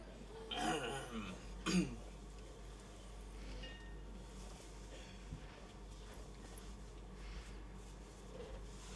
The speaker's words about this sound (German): Räuspert euch. Wenn ihr husten müsst, jetzt, nicht später.